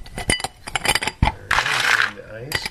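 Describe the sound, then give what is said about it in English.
Ice cubes drop into a glass holding an orange slice while a bourbon cocktail is being made, in a quick, irregular run of sharp, bright clinks, then a brief rattling clatter as more tumble in, followed by a final few clinks. “Then you're going to add the ice.”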